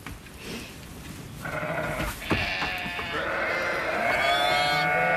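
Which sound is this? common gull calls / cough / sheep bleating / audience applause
sheep bleating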